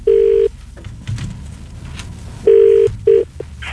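A phone call is being placed: a low, steady ringback tone sounds in short loud bursts, one long beep, a pause, then a quick pair of beeps, over a faint hum with no talking.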